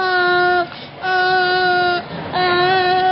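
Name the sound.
baby crying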